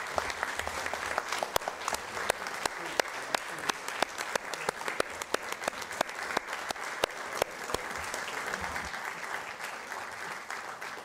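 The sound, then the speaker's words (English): Sustained audience applause, a dense wash of many hands clapping with sharp individual claps standing out, steady and fairly loud throughout the whole stretch with no speech over it. “As I say, for some things, you let the applause finish.”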